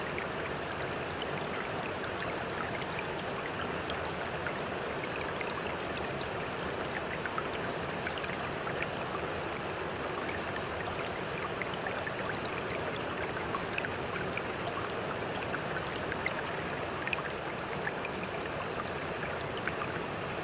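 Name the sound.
river flowing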